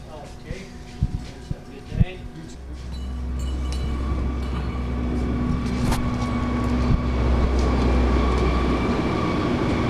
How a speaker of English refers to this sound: And as we're walking out of the office, that other truck is pulling right in now with another load of wheat.